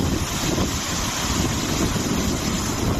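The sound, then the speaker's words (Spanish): Strong wind gusts whip the water of Lake Sanabria in Zamora province, Spain, into a swell that churns and splashes in a steady, roaring wash, with gusty wind buffeting the microphone throughout and no voices. “Una auténtica marejada por el movimiento del agua del lago a consecuencia del viento.”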